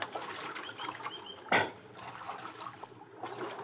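creek water splashing

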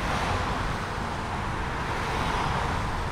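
road traffic noise

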